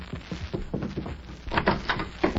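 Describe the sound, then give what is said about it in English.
A door is opened with a series of clunks and rattles from the latch and frame, moderately loud, followed by a couple of sharper knocks as it swings, opened to let a group of men in. “When they come to the door, Mag, you open it so I'll get the drop on them.”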